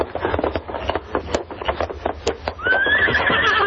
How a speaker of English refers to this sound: Here's my horse. Steady, boy.